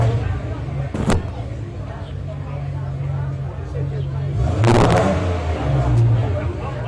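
A Ferrari GTO's original, rebuilt engine rumbles with a deep, steady drone, swelling into a louder rev about two-thirds through before settling back, with a couple of sharp clatters and faint background chatter.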